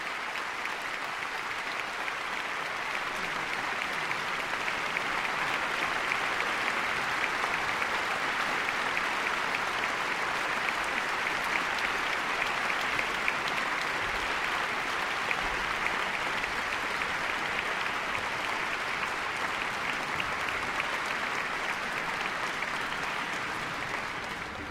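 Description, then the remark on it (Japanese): A large concert audience at Suntory Hall applauds steadily as conductor Blomstedt acknowledges the applause at the centre of the stage, after introducing the principal oboe, flute, clarinet, bassoon and horn players. A dense, even wash of many hands clapping holds a constant level without rising or fading, with no voices heard above it. “その後再び舞台中央に登場したブロムシテッドさんはまずオーボエ奏者を立たせました、そしてフルート、クラリネット、ファゴット、ホルン、それぞれのトップ奏者を皆さんに紹介していました、今舞台の中央で式台で客席からの拍手に応えているところです。”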